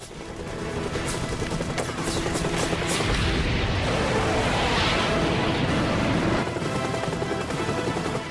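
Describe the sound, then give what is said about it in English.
Loud, dense bursts of rapid gunfire, including a helicopter shooting down, crackle over a continuous heavy roar, with deep booming explosions swelling through the middle. No voices are heard. “We had a helicopter shooting down on it, too.”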